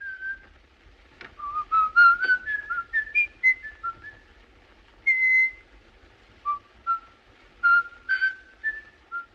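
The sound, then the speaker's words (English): A man whistles In the Hall of the Mountain King from Peer Gynt, as the serial killer does in the film M. It is a clear, stepwise tune of short and sustained notes with brief pauses between phrases. No one speaks. “That's how we know the serial killer is around, because we hear him whistling it.”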